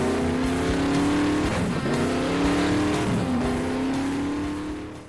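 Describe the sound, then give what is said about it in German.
A fast car engine revs loudly and steadily, its pitch climbing, dipping briefly, then climbing again through a second gear change before fading slightly at the end, with no voices. “Ja, nimm dir die Zeit, nimm dir die Kraft, die du brauchst, um mit deinem schnellen, dicken Auto von A nach B zu fahren.”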